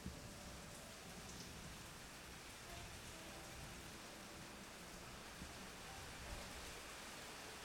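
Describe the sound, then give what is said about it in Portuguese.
Steady rain patters on a roof in a soft, continuous hiss, with fine drops blending into an even wash of sound and no voices. “nem sempre são dadas às chuvas fortes, às tempestades, às tormentas.”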